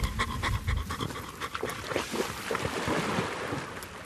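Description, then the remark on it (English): A detection dog, Lurg, with the Breeding Waders EIP project, pants rapidly and steadily in quick, breathy bursts after a two-minute sniffing search, with a constant wash of wind or water noise underneath and no voices. “Oh, good boy. Good boy. He only took 2 minutes to find that. I mean, their noses are incredibly powerful.”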